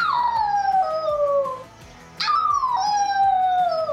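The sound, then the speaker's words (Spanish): Two long, loud werewolf howls, each sliding slowly downward in pitch, separated by a brief pause, with no talking. “El hombre lobo aulla a la luna para ahuyentar al enemigo y mostrar su presencia y su poder.”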